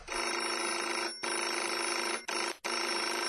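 A telephone rings loudly and continuously in sustained bursts, with short gaps between the rings, a bright electronic trill with no one speaking.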